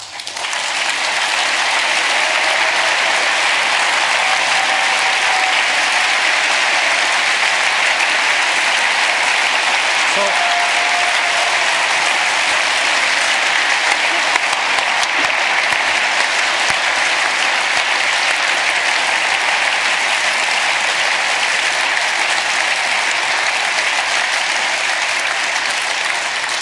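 Sustained applause from a large audience, a steady dense wash of clapping that holds at a constant loud level for the whole stretch, with a few faint whistles or cheers threaded through.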